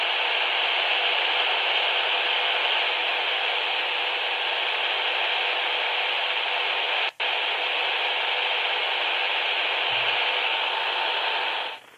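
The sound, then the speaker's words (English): A steady, loud wash of static hisses continuously from a radio in an apartment, tuned to a frequency reserved for Morse code that should carry no signal, broken only by one brief click-like dropout midway before fading out at the very end. “Now, that's on a frequency that's not supposed to have any signal.”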